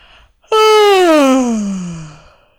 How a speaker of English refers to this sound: A bubble of air rose up from deep within, and she let out the biggest yawn of her life.